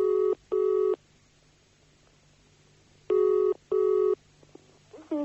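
A telephone line rings out twice in the classic double-burst pattern after dialing the LBC phone vote number: two short buzzing tones, a pause of silence, then two more, heard clearly down the line.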